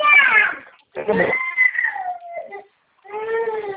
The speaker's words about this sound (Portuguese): A gatinha. Quer água?